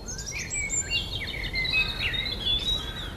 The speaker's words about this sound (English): The tiny red-chested creature commands all my attention. I'm mesmerized by the robin's elaborate songs.